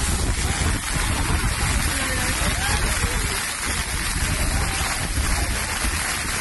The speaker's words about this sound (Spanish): Bolas de granizo, el viento que hacía que los corredores tuvieran que correr de espaldas. En algunos momentos.